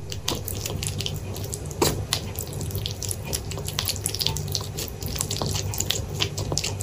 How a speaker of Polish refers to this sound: Słuchaczy spieszę poinformować, że to nie jest odgłos tłuszczu na gorącej patelni. Tak brzmią dwa języczki małych jeży, pracujące na wysokich obrotach w misce pełnej karmy.